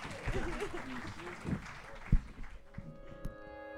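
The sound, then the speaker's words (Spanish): An audience applauds the panelists at the close of the first panel of a forum on forced disappearance, a steady, dense wash of clapping mixed with some crowd murmur. The applause thins out near the end as sustained musical tones come in. “Un fuerte aplauso a nuestros panelistas.”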